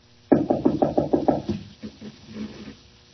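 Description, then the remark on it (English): Someone tries a locked door, the handle and door rattling in a quick run of about seven sharp clunks, followed by a few softer, scattered knocks as the effort dies away. “Nothing doing. I thought so. Locked.”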